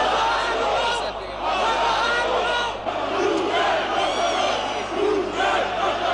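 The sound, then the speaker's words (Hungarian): A protest crowd of several thousand, in street clashes with police, shouts and roars continuously as police push it from the Astoria toward Blaha Lujza tér. Overlapping voices rise into yells and battle-cry bursts over a steady, dense wall of noise that never lets up. “Az Asztúria felől a több ezres tömeget a Blaha Lujza tér felé szorították a rendőrök.”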